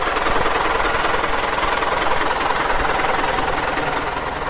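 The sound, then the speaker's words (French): A heavy engine drones steadily while hauling a boat out of the water on a third and final attempt, a dense, unbroken mechanical roar with a faint rattling texture, straining continuously without pause. “Troisième et dernier essai pour sortir le bateau de l'eau.”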